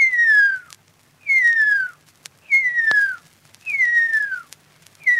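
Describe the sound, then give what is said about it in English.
A Maori person whistles an imitation of the extinct huia's birdsong: five clear, sliding whistles, each gliding downward in pitch, repeated at a steady rhythm with short pauses between them, alone on a slightly hissy mid-20th-century analogue recording, now digitised. “So what we have is an analogue recording, now digitised, of a Maori mimicry of an extinct bird.”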